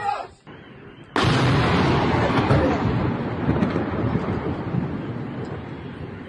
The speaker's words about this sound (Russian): А, в дом попали. Во, этот. Сбило дрон, и дрон в дом упал. Реально дрон.